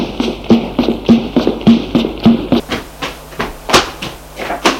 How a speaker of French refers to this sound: Frappe à la porte.